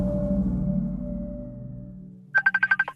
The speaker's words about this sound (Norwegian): Nå ringer han.